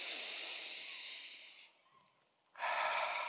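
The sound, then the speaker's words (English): Deliberate, audible breathing: a long, airy breath, a brief pause, then a second loud, hissy breath. No one speaks. “Yep, I'm breathing.”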